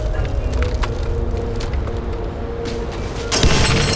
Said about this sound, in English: Come here. What the hell? Jet fuel. We're making an explosion. Why? Just trust me.